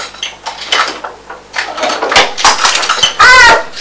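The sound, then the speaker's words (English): Something falls with a clatter, a burst of sharp, rattling knocks tumbling over a few seconds, ending with a brief rising-and-falling tonal squeal. “Whoops-a-daisy. I dropped it.”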